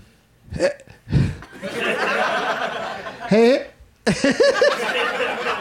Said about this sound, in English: Oh, I've got... this is going to be interesting to see how this plays out because I've got hiccups. So, but I'm going to try to soldier through and see what happens.